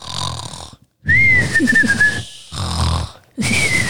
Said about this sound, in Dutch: Wat hoor ik? Nou, grootmoeder kan wel snurken, zeg. Zie ik nou? Dat is grootmoeder niet. Dat is de boze wolf.